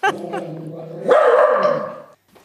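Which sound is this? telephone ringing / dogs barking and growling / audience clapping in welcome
dogs barking and growling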